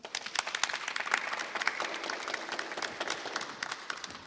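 An audience at an evening event applauds steadily in thanks to a founder of U-Transfer, many hands clapping in a dense, crackling wash with sharp individual claps poking through, holding at an even level for several seconds without any talking.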